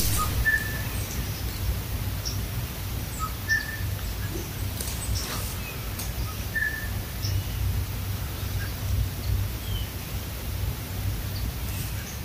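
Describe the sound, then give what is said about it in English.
A blue jay's two-note bell call repeats faintly a few times, short clear tones rising above a steady, hissing outdoor background with no talking. “Yeah, and that is, it's a two-note call. I can see why I think it's a bobwhite, but that is the bell call of the blue jay.”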